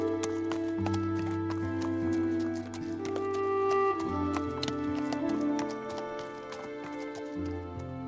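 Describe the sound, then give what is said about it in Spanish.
Horse hooves clip-clop in a steady, brisk rhythm, fairly loud, over sustained, droning musical tones that continue throughout. “Pues cuando bordeamos un abismo y la noche es oscura y tenebrosa, el jinete sabio suelta las riendas y se entrega al instinto del caballo.”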